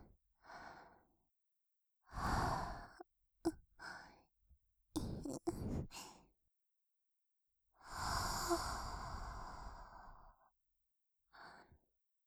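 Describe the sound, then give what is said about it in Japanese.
Soft, breathy exhalations blown into the other ear, puffed in uneven bursts, some long and airy, some quick, with a few faint clicks between them and no spoken words. “じゃあ、私は…反対側を吐息攻めしちゃおうかな。”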